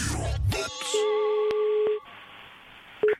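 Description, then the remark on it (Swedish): An outgoing call to Kronfågel rings on the line: a steady electronic ringback tone holds for about a second, falls silent, then starts again, after a brief clatter at the start. “Lilla My, våran favorit, ringer till Kronfågel och vill bli en kyckling”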